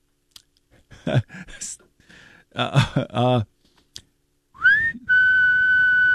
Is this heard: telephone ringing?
no